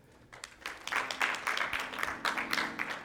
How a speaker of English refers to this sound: If you can remember the day, take a moment and give the Lord a hand clap of praise.